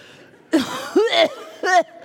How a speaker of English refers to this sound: I cough.